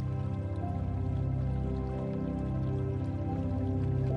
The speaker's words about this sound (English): guide your focus back to the soothing sound of the stream and the cool, fresh air. You are safe here, surrounded by the peaceful energy of the mountains and the calming sound of the water.